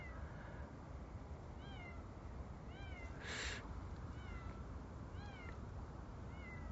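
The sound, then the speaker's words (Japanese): A cat meows repeatedly late at night in the pitch dark on a riverbank, short rising-and-falling cries every second or so, over a steady outdoor hiss, with a brief rushing noise burst midway. No one speaks. “猫かわいいとか言いますけど、 この深夜の河川敷の真っ暗の中、猫の声だけがするのを、もうさっきも言いましたけども、めっちゃ怖いんですよね。”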